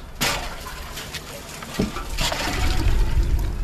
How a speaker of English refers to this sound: a group of women are using big plastic and metal buckets to get water from a big tank to irrigate the plants